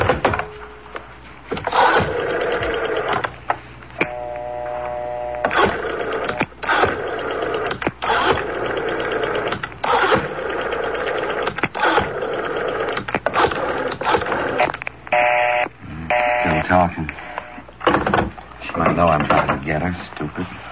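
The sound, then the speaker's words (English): Someone dials a telephone: bursts of quick mechanical clicking and whirring, with brief pauses between digits, while voices murmur underneath throughout. “Dial 9 to get outside”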